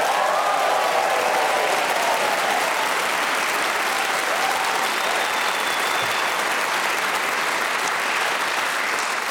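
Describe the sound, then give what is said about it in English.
A large audience applauds loudly and steadily throughout, a dense wash of clapping with scattered cheers and whoops rising above it, and no pause in the noise, greeting the four players of the show Just a Minute: Giles Brandreth, Desiree Birch, Glenn Moore and Lucy Porter. “Why not cheer and go crazy for all four of them?”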